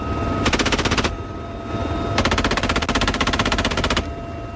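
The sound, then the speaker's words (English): Two bursts of rapid machine gun fire from helicopters firing at targets on an island during a military exercise at sea, a short one and then a longer sustained volley, rattling loudly over a steady droning engine hum with no voices. “Out at sea, helicopters would fly out and open fire with rockets and machine guns at targets on an island where, under the scenario, enemy forces were landing.”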